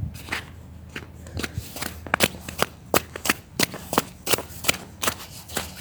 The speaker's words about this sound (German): Also in meiner Straße sind in der Regel recht wenig Autos, die langfahren. Aber leider sind schon ein paar langgefahren, deswegen ist die Straße selbst schon recht matschig. Das hört man auch.